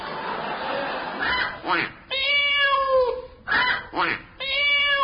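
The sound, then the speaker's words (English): A person imitates an odd animal call, a 'chicken duck cat': loud, nasal meows with a honking edge. Two long cries are separated by short, breathy, scratchy bursts. “That was a chicken duck cat.”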